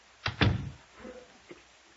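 A door being shut: two quick, loud thuds in close succession, a brief muffled rattle, then a fainter knock a second later. No one speaks.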